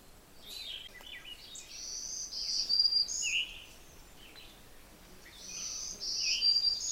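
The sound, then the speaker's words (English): A black-throated green warbler sings its thin, buzzy zee-zoo phrases around a yard, two bursts of high wheezy notes amid faint background forest birdsong. “Hear that zee-zoo, zee-zee-zoo? That's a black-throated green warbler.”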